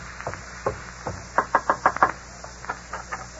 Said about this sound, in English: Here's the house. You wait here while I go knock.